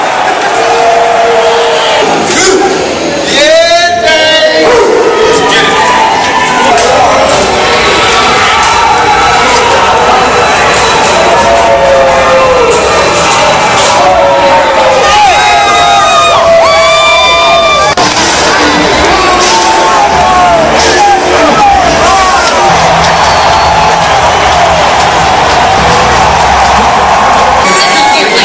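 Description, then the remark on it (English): A big crowd of Eagles football fans cheers and shouts continuously at a Monday night game, with whoops and yells rising over a loud, steady roar throughout. “A lot of very happy Eagle fans here.”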